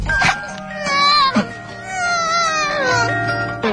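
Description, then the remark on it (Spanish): A person imitates a baby's cry, producing a sustained, loud, wavering wail with sharp breathy catches in between, lasting a few seconds. “A mí me sale muy bien el llanto de un bebé.”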